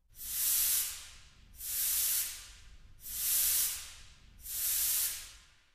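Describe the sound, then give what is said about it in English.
Four steady, rhythmic bursts of loud, airy hissing from a scuba tank's released air, used to imitate the sound of steam in an orchestral piece, each swelling and fading like puffs of steam, with brief pauses between and no voices. “For the sound of steam, I used a scuba tank.”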